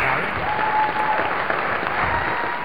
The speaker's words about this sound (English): So everybody, big round of applause.